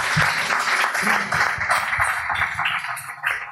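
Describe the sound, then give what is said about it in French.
A crowd claps steadily for a few seconds to welcome a guest, a dense, sustained wash of applause with scattered louder claps, with no one speaking over it. “Les amis, je vous demande s'il vous plaît une pluie d'applaudissements”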